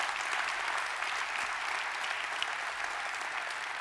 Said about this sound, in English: All right, yeah, that's a good time to clap.